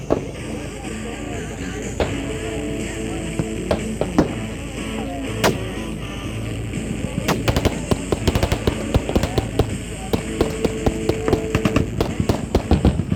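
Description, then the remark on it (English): Sharp cracks of automatic gunfire ring out in the desert, scattered at first and then in dense, rapid bursts. The shots are loud over a constant low rumble and faint background voices. “On va attendre une petite pause entre les rafales pour essayer d'expliquer ce qui se passe autour de nous.”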